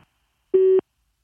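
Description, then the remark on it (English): A single steady electronic beep, about a quarter second long, at a constant mid pitch with harmonics above it, sounding alone against silence: the message prompt tone of the St. Parish church answering machine. “If you would like to leave a message, please wait for the sound of the beep.”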